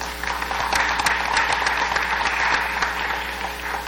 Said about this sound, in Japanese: ただいまのお話に対して質問ございますか。ないようですので、ただいまの第10期養鶏学館、拍手を持って承認します。